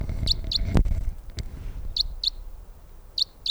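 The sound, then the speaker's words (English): A female crossbill's flight call as she flies overhead toward the recordist: three pairs of sharp, high chips, each note quick and clipped, spaced about a second apart, with a couple of soft knocks and low background rumble between them. “In the 306 flight call. Here comes a crossbill directly for us.”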